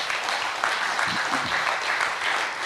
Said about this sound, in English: Let's clap it up, though.